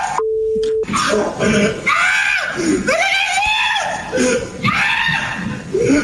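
A brief steady beep, then a man in a Detroit neighborhood, panicked by Smokey, a neighborhood animal, and jumping onto a car, screams in fright again and again, shrill and high-pitched, in loud rising-and-falling bursts over several seconds.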